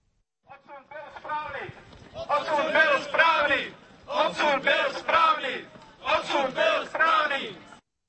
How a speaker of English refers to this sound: The expulsion was right, shouted about 30 members and sympathizers of the small far-right National Party during their march in Prague on Tuesday.